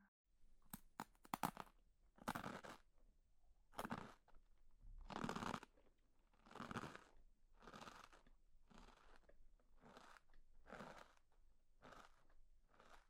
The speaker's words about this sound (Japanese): 咀嚼音って人によっては心地よく感じたりするらしいわね。一緒にご飯を食べている感じが気持ちいいってことなのかしら。よく考えると不思議な感じね。